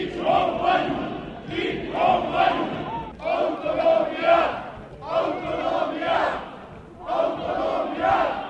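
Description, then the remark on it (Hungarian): A large crowd of marchers chants slogans in unison while marching and singing through the streets to the main square of Marosvásárhely, following an event at the Székely Martyrs monument. Loud, rhythmic bursts of massed voices repeat in short phrases with brief pauses between each one. “A Székely Vértanúk emlékművénél tartott rendezvényt követően a résztvevők az utcán vonulva, énekelve és jelszavakat skandálva Marosvásárhely főteréig kísérték azt a küldöttséget, amely a kiáltványt átadta a Maros megyei prefektúra képviselőjének.”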